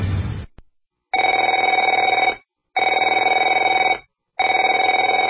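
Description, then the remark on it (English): A telephone rings three times in a steady pattern, each loud, buzzy ring lasting over a second and separated by short silent pauses, following a brief burst of other sound at the start. “Afraid to answer it?”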